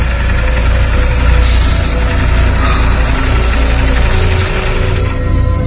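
A sewing machine whirs steadily and loudly near midnight, a continuous low mechanical drone with a faint rattling texture and no voices.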